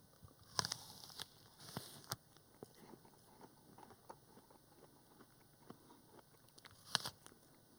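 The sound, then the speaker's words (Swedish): Someone in a studio bites into a windfall apple with a crisp crunch, then keeps chewing, with a few sharper crunches standing out from the steady wet munching. Nobody speaks. “Det är så här fallfrukt, äpplen som jag har tuggat på här.”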